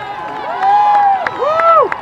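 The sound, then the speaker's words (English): A dense crowd of thousands of spectators lining the sidewalks at the Boston Marathon finish line cheers and shouts continuously as runners complete the 26.2 miles, with rising and falling whoops and a few sharp claps or bangs cutting through the steady roar of voices. “The sidewalks packed with thousands of people cheering as runners complete the grueling 26.2 miles.”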